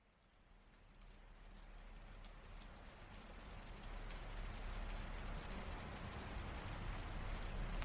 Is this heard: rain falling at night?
yes